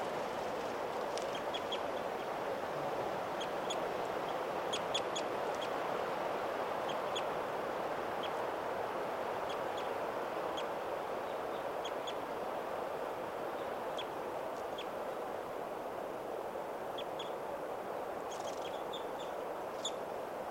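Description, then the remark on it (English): Many birds call over a steady, hissing background, with short high-pitched chirps scattered throughout and occasional clustered bursts. No one speaks. “A lot of birds here.”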